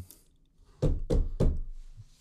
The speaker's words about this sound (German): Mach das mal nochmal. Ja, mit dem Klopfen. Mach das mal nochmal mit dem Klopfen.